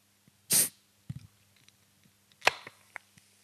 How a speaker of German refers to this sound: Ich werde diese Dose jetzt ganz langsam für euch öffnen.